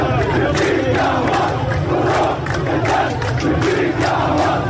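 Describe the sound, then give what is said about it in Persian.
A large crowd of protesters in Khuzestan, Iran, protesting water shortages and poverty, chants together in loud, rhythmic bursts. Many voices rise and fall in a steady repeated cadence with a dense roar underneath. “اعتراضات خوزستان به بی‌آبی و فقر ادامه دارد.”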